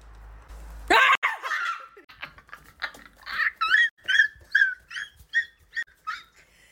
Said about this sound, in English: Doggy squeaky toy.